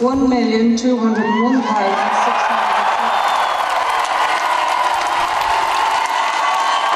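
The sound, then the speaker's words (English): A large crowd at Dublin Castle erupts in loud cheering as a referendum result is announced, with a few high whoops and shouts at the start that swell into a dense, sustained roar of voices and applause lasting several seconds. “In a moment, you hear the voice of David Norris addressing the crowd at Dublin Castle.”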